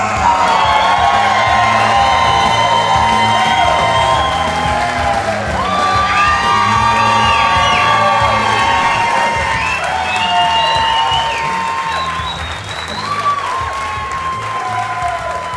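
A loud crowd cheers and applauds steadily, with whoops and shouted voices rising over continuous clapping that stays strong throughout and eases only slightly near the end.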